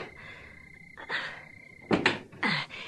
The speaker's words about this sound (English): Here, let me open the front door for you.